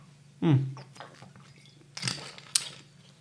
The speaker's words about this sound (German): Ich bin immer noch ein bisschen angeschlagen, da muss ich immer ein bisschen schlucken. Immer noch.